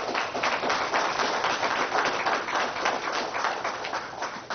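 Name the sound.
audience clapping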